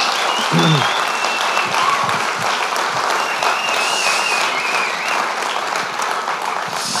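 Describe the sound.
Sustained applause for the team from a large audience at a church service fills the room, dense and steady clapping at fairly loud level throughout, with a few faint voices mixed into the crowd noise.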